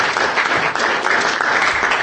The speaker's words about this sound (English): That applause is richly deserved and should be long sustained.